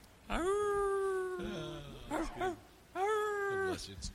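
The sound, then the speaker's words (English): Dogs howl in two long, steady, high-pitched wails, each held for about a second, with a short stretch of people talking in between. “Dogs are howling.”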